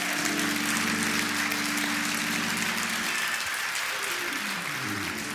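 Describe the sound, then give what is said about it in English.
An audience claps in praise of the Lord, a steady, dense wash of many hands applauding throughout, with a low sustained organ-like tone underneath that slides and fades partway through. “Give the Lord a hand clap of praise if you would.”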